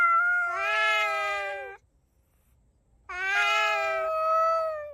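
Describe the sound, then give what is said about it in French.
Cats drawn by garbage in a neighbourhood meow and caterwaul in two long, drawn-out yowls, each lasting nearly two seconds, separated by a brief silence. The cries are loud and wavering, with no talking. “Avec les ordures arrivent les chats.”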